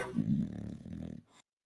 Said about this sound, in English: Guy snoring.